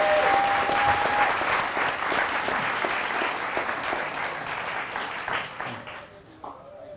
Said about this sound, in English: Please just give him a round of applause for you after he's talking.